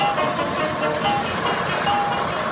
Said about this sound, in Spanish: La falsa Verónica y su cómplice se alejan en un auto.